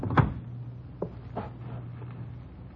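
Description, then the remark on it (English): An icebox door opens with a sharp latch thump, followed by two softer clicks, while a steady low hum runs underneath. No one speaks. “Open the icebox.”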